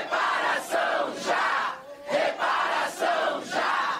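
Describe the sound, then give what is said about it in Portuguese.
A loud crowd of Black movement activists, packing two committee rooms, chants slogans in unison in support of a proposed National Fund for Economic Reparation and Promotion of Racial Equality, voices rising and falling in a steady repeated rhythm of roughly four shouted phrases with brief dips between them. “Houve intensa mobilização de movimentos negros que lotaram dois plenários do corredor das comissões e manifestaram apoio ao texto por meio de faixas, cartazes e gritos de ordem.”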